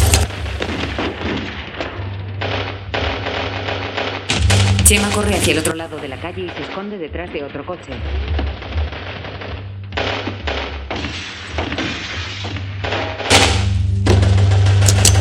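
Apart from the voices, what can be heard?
gunfire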